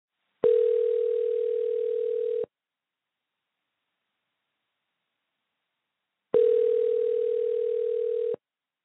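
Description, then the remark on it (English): An outgoing telephone call to a woman in California rings: two long, steady electronic tones of about two seconds each, separated by a silent pause of roughly four seconds, clear with no voices. “After 7 weeks and thousands of phone calls, I think I found her.”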